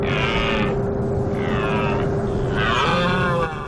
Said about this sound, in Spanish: Al amanecer y al anochecer, con el fresco, la actividad sexual de los ciervos activa a partir de septiembre. Es la berrea.